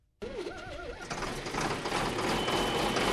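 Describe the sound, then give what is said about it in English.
A tractor engine getting a tune-up on a wheat farm south of Spokane, Washington, before planting soft white wheat, starts up loud, a wavering whine rising and falling over the first second before settling into a dense, steady roar. No one speaks. “The tractor gets a tune-up as Randy Cease gets ready to plant his soft white wheat.”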